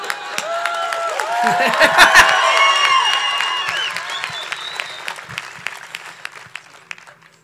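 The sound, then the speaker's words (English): An audience bursts into applause for each other: dense clapping mixed with shrill whistles and cheering voices that peak early, then thin out to scattered claps as the noise slowly fades. “So it would make me super fucking happy if everybody clapped it up for each other.”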